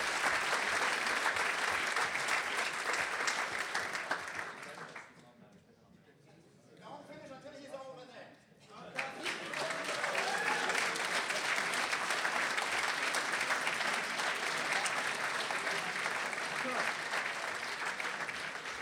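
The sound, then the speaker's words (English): A crowd claps loudly and steadily for a man coming up to tell a story, breaks off for a few seconds while a voice speaks, then bursts back into sustained, dense applause that carries to the end. “So be glad to clap and put all the energy into it, because he's doing something you don't want to.”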